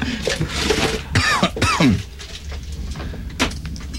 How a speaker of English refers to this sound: I can't stop coughing today.